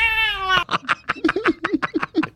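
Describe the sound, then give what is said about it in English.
A long, drawn-out cat meow sounds, then breaks into a quick run of short, choppy chirping bursts, fairly loud throughout. “It's here, kitty, it's microwave time.”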